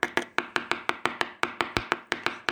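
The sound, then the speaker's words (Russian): A woodpecker knocks rapidly on wood, about fifteen sharp, crisp taps in a steady, slightly uneven rhythm, each one dry and percussive with a quick decay, with no voices. “Вот раздался быстрый стук по дереву.”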